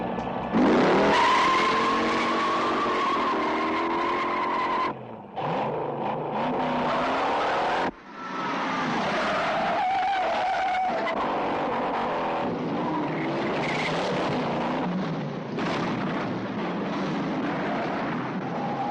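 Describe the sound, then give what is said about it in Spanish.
A car, the 'coche fantástico', roars away with loud, squealing tires, the engine revving hard and the skid pitch wavering over a steady, dense rush of noise with brief dropouts, no one speaking. “Y nos vamos en el coche fantástico.”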